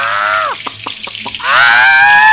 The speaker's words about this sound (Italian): Sardina Sartori, se l'acqua calda ti ha resuscitato, l'olio bollente ti metterà a tacere. Dio ladro, ora ti friggo!